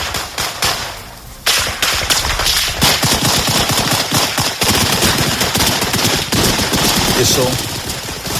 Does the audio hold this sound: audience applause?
no